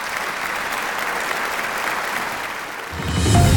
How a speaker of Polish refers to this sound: Wielkie brawa.